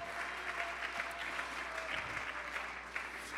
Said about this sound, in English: Let's clap our hands.